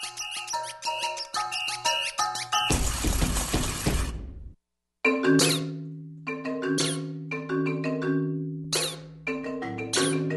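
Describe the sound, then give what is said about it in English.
Shrill, pitch-bending squeaks from a squeaky toy scored as an instrument in a musical piece come in short repeated bursts over sustained instrumental tones, after a stretch of bright plucked notes and a loud crashing, shattering noise. “But you can get all these different sounds just from a squeaky toy, depending in particular on how you score for it with other instruments.”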